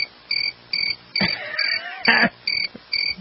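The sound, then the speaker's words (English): A cricket sound effect: crickets chirp in steady, evenly spaced bursts, a clear high trill repeating about every half second, with a brief louder rustling sweep in the middle. No one speaks. “Do we have our crickets?”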